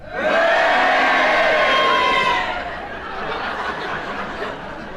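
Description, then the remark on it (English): A studio audience erupts in loud mixed cheering and booing for a couple of seconds, voting on whether Kenneth Williams' challenge was justified, then the noise drops to a lower, scattered crowd murmur with some laughter. “And if you do, will you cheer? If you think it was unjustified, will you boo?”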